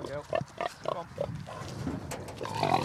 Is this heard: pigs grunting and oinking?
yes